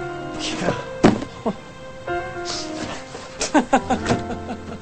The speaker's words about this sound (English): She closes a box.